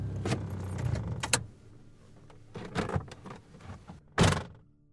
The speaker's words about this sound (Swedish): Och de kommer fram efter en stund, parkerar minibussen och kliver ut på en grusväg.